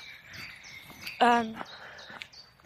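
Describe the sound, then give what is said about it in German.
Outdoors on a quiet walk, birds chirp faintly, with short high calls repeating throughout, while one louder, harsher harmonic call cuts in briefly near the middle. “Das Einzige, was die Vögel brüllen, ficken.”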